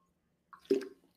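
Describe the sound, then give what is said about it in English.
A short burst of liquid being poured, a quick splash and gurgle lasting about half a second, with no talking. “And for those who are watching, it's the idea that I just poured this thing that was brand new to me when I got to Michigan High School.”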